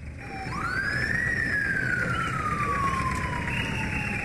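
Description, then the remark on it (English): An ambulance siren wails, one long tone rising quickly then sliding slowly down, over a steady low rumble of engine and street noise, as an ambulance brings a 66-year-old woman to the Yaoundé Central Hospital. “An ambulance has brought a 66-year-old woman to the Yaoundé Central Hospital.”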